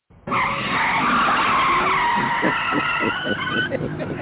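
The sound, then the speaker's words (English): A loud, sustained screech of car tires skidding under hard braking, with a high squealing tone that wavers and stutters toward the end, lasting about four seconds. “Hey, hold the brakes.”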